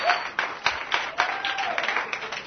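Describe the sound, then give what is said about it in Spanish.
A crowd claps in a dense, steady wash of applause, with faint voices and cheers mixed in, lasting a couple of seconds. “Un aplauso para todos. Porque siempre, no, un aplauso con ganas, come on.”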